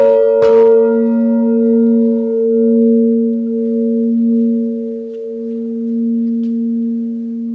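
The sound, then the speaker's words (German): A large bell, part of a wood and metal artwork in an art exhibition, is struck once, a sharp metallic hit near the start that blooms into a deep, sustained hum with steady overtones ringing on for several seconds, loud. “Man kann also das Material von Holz und Metall fühlen und darf diese Glocke auch schlagen.”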